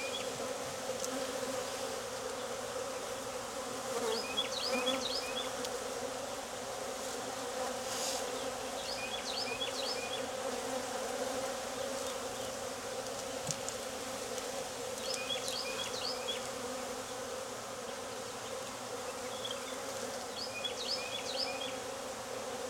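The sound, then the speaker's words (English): A steady droning buzz of many honeybees swarming around an open hive during a beekeeper's frame inspection, continuous throughout, with faint high chirps recurring every few seconds in the background. “I mean, there could be bees from one queen and eggs from the new one.”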